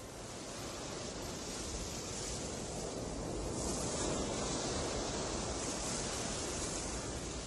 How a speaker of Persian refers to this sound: جالبه بدونید صداهایی که از امواج دریا میشنوید صداهایی که برای این آلبوم ضبط شده و از صداهای آرشیوی استفاده نشده.